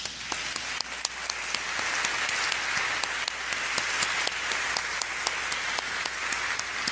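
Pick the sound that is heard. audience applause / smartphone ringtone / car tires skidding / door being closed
audience applause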